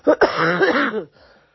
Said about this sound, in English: Well, I'm coming up to a cough.